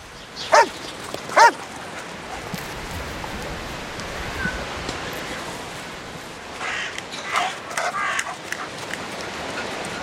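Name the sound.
dogs barking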